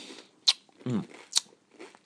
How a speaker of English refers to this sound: I'm going to suck this one to get the flavour properly.